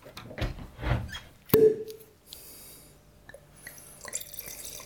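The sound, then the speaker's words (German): Soft rustling and handling, then a single sharp pop as a bottle of 2016 Riesling Kabinett from the producer Schloss Lisa, Thomas Haag, is opened, with a short hollow ring, followed by quiet gurgling and trickling as the wine is poured. “An der Art und Weise, wie es plopp gemacht hat.”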